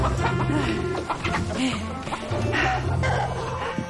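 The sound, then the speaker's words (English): Several chickens in a chicken coop cluck and squawk continuously, with scattered scuffling and light knocks mixed in, as a woman chases them and catches one. “Finally snagging a chicken, she smiles and rises.”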